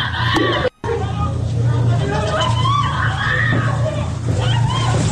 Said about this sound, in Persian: این صحنه جیغ و فریاد دوتا دختر بچه توی فردیس کرجه که برادران لباس شخصی به زور دارن بازداشتشون میکنن.